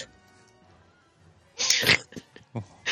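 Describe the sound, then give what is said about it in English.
After a quiet stretch, a man lets out one loud, sharp, powerful sneeze, followed by a few shorter breathy bursts of noise. “He just sneezed, and I swear he rolled like half the way back in his roller chair.”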